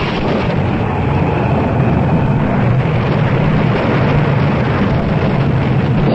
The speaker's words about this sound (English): that last lightning bolt hit us from the mizzen to the stern